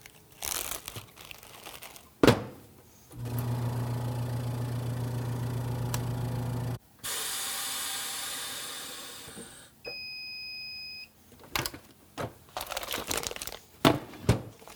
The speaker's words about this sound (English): So now I can go ahead and place it in my vacuum sealed bag. And then we'll take it over to the chamber vac and suck all the air out of here and get it back into the fridge.